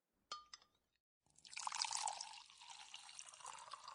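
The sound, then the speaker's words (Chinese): Two light glassy clinks, then water pours steadily from a jug into a cup for about three seconds, fairly loud, with a bright splashing rush that shifts slightly as the cup fills. “这水量啊，应该还可以再倒两杯。”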